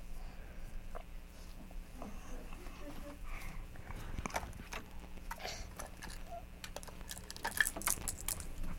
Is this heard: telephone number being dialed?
no